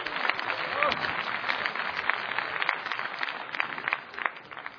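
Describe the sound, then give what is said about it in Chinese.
Sustained audience applause welcoming two xiangsheng crosstalk performers, Guo Degang and Yu Qian, to the stage, a dense crackle of many hands clapping at once, steady and fairly loud throughout, with possible crowd voices mixed in. “来，掌声有请二位。”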